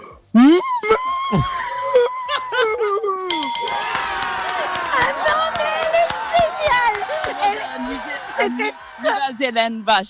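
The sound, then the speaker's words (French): A person imitating a cow to win a reblochon cheese lets out a loud, drawn-out moo, almost a scream, with a wavering, falling pitch. A burst of crowd cheering, whoops and clapping follows. “You have to scream like a cow, actually.”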